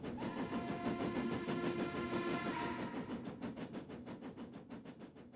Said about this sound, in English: So my first thought was, I'll just revisit that, the sound of the train, the train whistles,